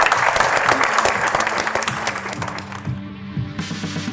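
Steady, dense applause from an audience, a broad crackle of many hands clapping that holds strong throughout, with a few faint tonal notes and murmurs underneath toward the end.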